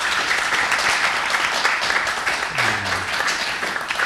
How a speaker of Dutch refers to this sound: Goed, Wim, dankjewel. Wim mag ook best een applaus, jongens.